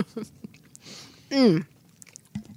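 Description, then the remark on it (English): Soft chewing of a Starburst chewy candy: scattered wet smacks and clicks, then a brief appreciative hum before a few more faint mouth sounds. “Because, like, I think almost every American child has fond memories of Starburst and can be returned to childhood simply by chewing one.”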